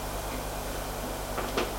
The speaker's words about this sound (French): Au premier, frappe à une porte, l'ouvre et la fait entrer. Ferme la porte derrière elle.